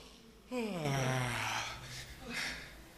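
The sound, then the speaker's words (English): A long, voiced yawn slides downward in pitch, fairly loud, followed by a softer breathy exhale a moment later, during a stretch break. No talking. “Maybe a gentle roll. Hey, yawn, if you can do it.”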